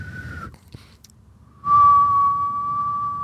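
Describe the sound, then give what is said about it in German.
Someone whistles a steady, mid-pitched tone in imitation of a ringing in the left ear that has lasted a week: a short held note, a brief pause, then a louder, unwavering note sustained for well over a second. “Nein, es ist ein Pfeifton halt.”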